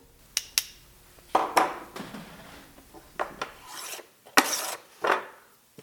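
A handmade hand plane scrapes along a stick of wood being carved into a violin bow in a workshop near Boston, in a series of short, rasping strokes, each a bright, breathy swish with sharp clicks between them, irregular in rhythm and with no voices.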